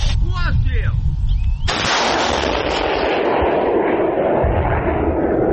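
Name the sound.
artillery gun firing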